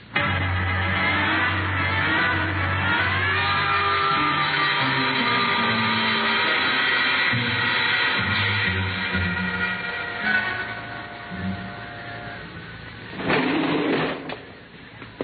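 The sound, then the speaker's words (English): A service elevator descends to the basement garage with a steady, loud mechanical hum and whine, its motor droning evenly before a brief rattling clatter near the end as it comes to a stop. “There's a service elevator that leads to the basement garage.”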